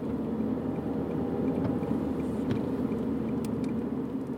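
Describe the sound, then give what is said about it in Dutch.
Steady low engine and road rumble of a car driving to Oostgeest on a dreary February morning, heard from inside the cabin, a continuous droning hum with faint clicks and ticks above it. “Ik zit in de auto op weg naar Oostgeest.”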